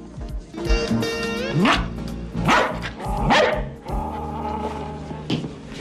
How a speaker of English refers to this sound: Ace finds a dog whimpering in the corner. Hi there, fellow. Have a bad night? The dog barks as Lois enters.